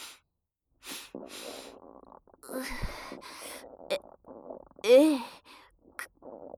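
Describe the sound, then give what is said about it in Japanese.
A teacher sniffs a fart: several short, sharp inhales through the nose in quick bursts, mixed with breathy murmurs and a brief snorting sound, fairly loud. “先生が私のおなら嗅いでる。”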